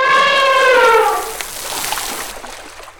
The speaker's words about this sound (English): She makes a loud noise and splashes water on her back with her trunk.